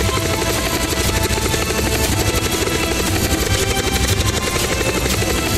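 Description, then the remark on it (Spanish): A helicopter roars, its rotor chopping in a rapid steady pulse with a loud engine whine, sustained throughout as it lifts off and rises, leaving mountains and huge trees behind, carrying Omniman. No voices are heard. “Le hace una seña al piloto de que puede despegar. Y el helicóptero despega.”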